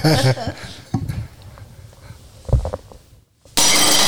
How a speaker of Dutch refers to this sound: Zou jij daar het bord voor kapot van willen gooien? Heel graag. Nou, dat mag je doen.